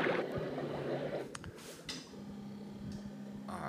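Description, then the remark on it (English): Air bubbles steadily through water in a fish tank on the startup screen of the video game Seaman, a continuous gurgling hiss dotted with small ticks and pops, holding an even, moderate level throughout. “It looks like a fish tank. The air is bubbling in, as you can hear.”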